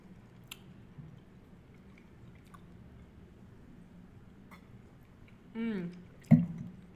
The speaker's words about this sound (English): I've sliced a little Havarti, so give that a try with a sip of this wine.